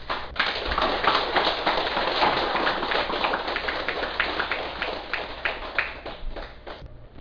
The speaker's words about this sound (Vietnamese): Điều mà đã khích lệ là chư Phật tử, đại chúng đã không vì lạnh lẽo của thời tiết khắc nghiệt mà vẫn về chùa đông đủ. Đó là một điều hết sức là cao quý, đáng được vỗ cho mình một tràng vỗ tay.